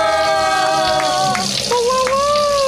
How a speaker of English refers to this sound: All right, here we go. Let's spin that wheel.